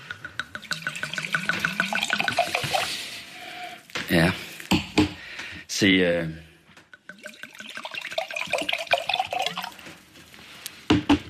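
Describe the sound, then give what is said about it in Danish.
Wine glugs and splashes as it is poured into a glass in a steady run of gurgles, broken by a few sharper clinks and bursts, with people talking over it. “Et glas her.”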